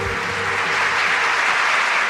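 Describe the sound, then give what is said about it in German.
A dense, steady wash of clapping-like patter, like a crowd applauding, holds at an even, fairly loud level for a couple of seconds with no voices. “Manchmal, wenn er alleine zu Hause seine Augen schließt und sich in seinen Gedanken wieder auf die große Bühne katapultiert, klingt der Regen, der gegen seine Fensterscheibe prasselt, auch wie Applaus.”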